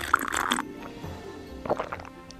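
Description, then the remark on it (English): Wet slurping from a glass of water at dinner: one loud, noisy slurp at the start, then a short lull and a few softer, gurgling sips toward the end. “Slurp, slurp, slurp, was all the prince heard.”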